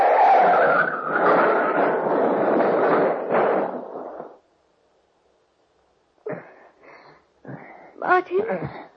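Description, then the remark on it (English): A car skids loudly off the road into a ditch and turns over twice, a rough sustained screech and rumble for about four seconds, then cuts to silence before voices start speaking. “Don't touch that wheel! Martin, the ditch!”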